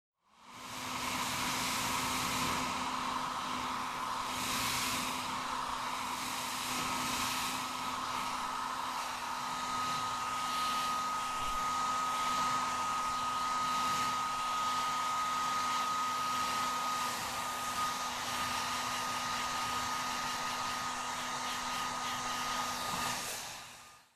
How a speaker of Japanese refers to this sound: ドライヤーを強めに当てて切った髪を吹き飛ばしちゃいますね。